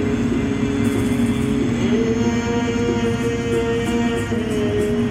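The engine of a safari vehicle, driven by a safari driver during a safari, drones steadily, its low rumble shifting pitch slightly as it drives along, with no voices over the continuous motor noise.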